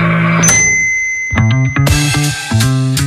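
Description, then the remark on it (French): A microwave oven signals it has finished: a bright electronic ding with a lingering high tone, followed by a quick run of several sharp chime strikes, loud and ringing, with no voices. “Ah, ce petit ding, mes amis, c'est la musique de l'autonomie alimentaire, le signe que notre délicieuse création, souvent douteuse, était prête à être dégustée.”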